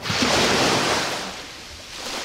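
Ocean waves crash in a broad, hissing roar that swells loudly at first, then recedes and softens before building again near the end, with no voices present.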